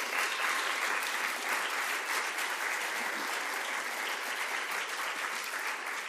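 An audience in a church breaks into sustained applause, a dense, steady wash of many hands clapping at even loudness for several seconds with no voices standing out.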